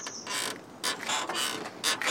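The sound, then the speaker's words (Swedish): A well winch with a simple crank, under the well's small wooden roof, being cranked to haul a bucket of water up on a rope, giving a run of rhythmic, high, grinding creaks that come in steady strokes, fairly loud, with no voices. “Hon vevade upp det igen.”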